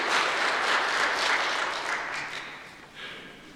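A crowd applauds steadily, a dense wash of many hands clapping at once, holding strong before gradually tapering off toward the end.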